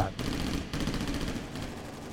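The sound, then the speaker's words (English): Rapid automatic fire from an M16 rifle rattles out in sustained bursts, loud, with brief breaks between volleys and a dense, echoing crackle filling the gaps. A man sweeps the rifle back and forth across a road, firing at bank robbers. “It's McCarty's gunfire that eventually drives the bank robbers off”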